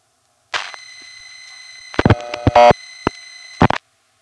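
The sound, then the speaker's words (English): Telephone dialing pulses for the hundreds (fifth) digit of a phone number, pulsing 6-1 instead of 1-1: sharp mechanical clicks in irregular clusters over a steady, buzzing electronic tone, with a dense run of rapid clicks in the middle and a louder burst at the end. “When Ben dials the hundreds digit, that is the fifth digit of the phone number, instead of pulsing 1-1, it does this.”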